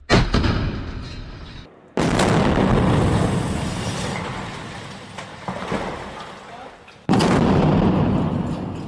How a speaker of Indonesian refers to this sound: Suara ledakan yang baru saja Anda dengar adalah suara serangan rudal yang diluncurkan tentara Israel ke bangunan apartemen penduduk di Gaza.